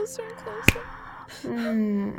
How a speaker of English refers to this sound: And every time I snap my fingers or say clench, your body feels an intense pleasure, a sexual pleasure, concentrating between your hips.